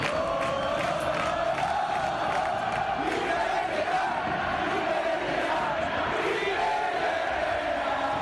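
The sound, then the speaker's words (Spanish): A large stadium crowd of Real Betis fans in Heliópolis shouts in protest against coach Quique Setién, a dense, steady roar of many voices with rising yells and jeers, loud and unbroken throughout, with no single voice standing out. “Gritos en su contra, él asumiendo y sacando pecho también.”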